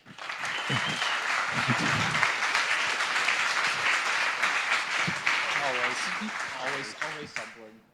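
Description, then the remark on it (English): An audience at Hacker Camp applauds loudly and steadily to welcome a speaker, a dense wash of many hands clapping for about seven seconds, with a voice starting to speak over the last stretch as it fades. “Give already a big applause”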